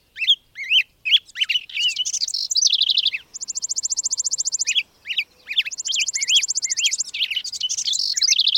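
A migrant songbird sings clear in spring with no other sounds, mixing quick whistled chirps and slurred notes with two long, rapid trills in a lively, continuous song.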